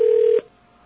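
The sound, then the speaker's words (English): A single steady electronic telephone keypad tone sounds clearly for under half a second, then cuts off into near silence. “where's your phone? There it is.”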